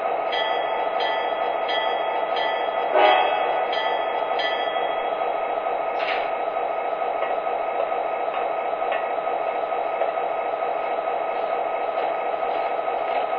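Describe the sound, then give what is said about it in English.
A train rolls to a stop after hitting a bump at milepost 50, with a steady rumbling hiss that holds at an even level throughout, broken by a couple of brief metallic clanks near the start. No one speaks. “We better stop and check out the train.”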